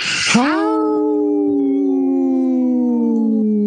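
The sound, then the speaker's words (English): A single sustained howl imitating a wolf on Native Roots Radio, rising sharply at the start and then holding a steady, slowly falling pitch for over three seconds, loud and rich in harmonics. “did you howl with us?”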